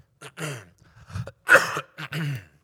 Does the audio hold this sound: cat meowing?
no